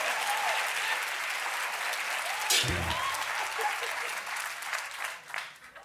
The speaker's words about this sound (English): That is the applause of recognition, I see.